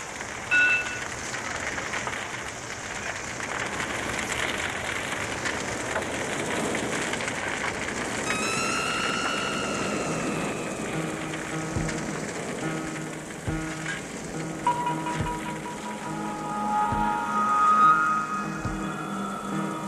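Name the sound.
heavy rain falling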